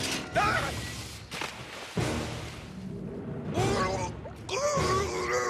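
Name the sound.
trap door opening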